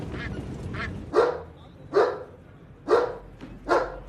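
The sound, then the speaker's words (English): A dog, Rococo, looks out of a window onto the sidewalk below and barks sharply four times in a steady rhythm, each bark loud, with a couple of softer yaps at the start and no one talking. “Rococo looks out of the window onto the sidewalk below and barks repeatedly.”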